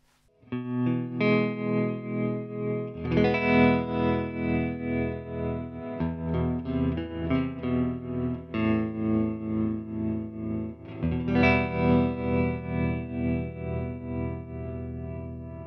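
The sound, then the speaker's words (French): Electric guitar chords played through a guitar effects pedal set to tremolo plus reverb, with the effect level pushed to maximum, throb with a steady, rhythmic tremolo pulse, washed in reverb, changing chords every few seconds with no voices, fairly loud. “Jusqu'ici, rien d'étonnant, vous avez entendu un trémolo.”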